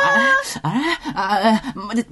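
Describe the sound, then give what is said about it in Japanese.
A voice mimics a wailing baby, letting out three loud, drawn-out cries in quick succession, each rising and falling in pitch. “アンギャー！アンギャー！アンギャ ー！間違えた。なんで赤ちゃんになっちゃった？”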